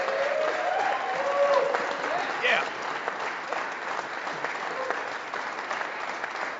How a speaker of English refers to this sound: Give these guys a nice round of applause.